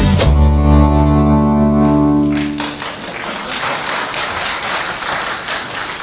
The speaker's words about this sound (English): Yeah, you don't often clap for a video.